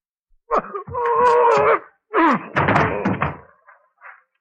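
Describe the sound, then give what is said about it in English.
A person leaps up and deliberately falls heavily onto the floor, pretending to be stabbed in the back and dead: a loud thump, a drawn-out groaning moan, then a second thud and scuffling that fades to a faint final knock. “I'm going to leap up in full view of the window and the beggars outside, and then fall on the floor”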